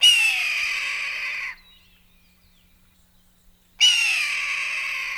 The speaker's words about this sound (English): And finally, closing it out with another predator, this is the red-tailed hawk.